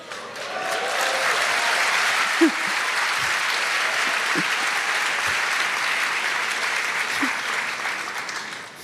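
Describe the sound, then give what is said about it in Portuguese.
Sustained audience applause fills the whole stretch, a dense steady patter of many hands clapping at an even loudness, with a few faint murmurs underneath and no clear speech. “Agora, não somente aplaudam, mas por favor, orem por mim para que meu jantar caia bem e eu não perca a minha noite de sono, tá bom?”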